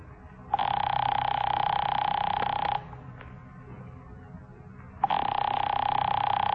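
A telephone rings in two long, steady bursts separated by a couple of seconds of quiet, its buzzy bell-like tone clear and fairly loud over a faint low background hum.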